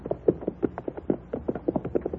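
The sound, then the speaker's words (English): A quick, steady clatter of horse hooves clip-clopping, many overlapping hoofbeats like several horses trotting together, fairly even in loudness with no voices. “Leave our horses in the wagon shed there till we get a saddle on the stallion.”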